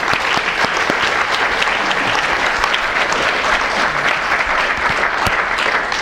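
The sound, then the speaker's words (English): An audience claps steadily for several seconds to welcome a speaker at a session, a dense, continuous patter of many hands with no voices over it. “So I'd like to ask everybody to give a warm round of applause”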